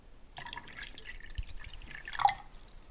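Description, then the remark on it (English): Cold water pours into a bucket in a steady, splashy stream for about two seconds, with a brief louder gush near the end before it stops, added after hot boiling water to a mixture that is later fermented. No one speaks. “And then you add cold water.”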